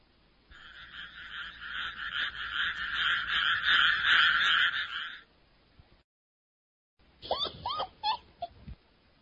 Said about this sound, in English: They were having a very good time until they heard some frogs in the water.